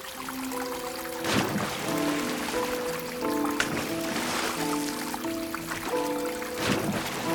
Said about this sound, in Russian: Колесница остановилась. Оба в воду входят.